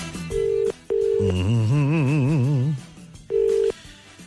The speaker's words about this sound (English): Let me call my Joe Donnelly guy. Let me call my Joe Biden guy. Hey, it's ringing.